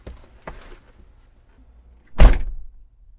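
car door closing

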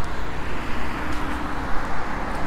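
traffic passing

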